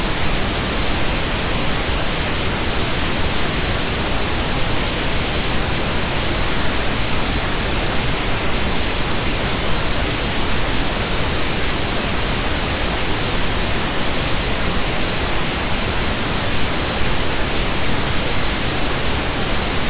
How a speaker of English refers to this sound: Give me 1 second, I'll get you the static.